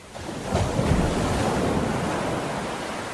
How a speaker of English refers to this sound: Is it waves? Oh my gosh, Dana, it is waves!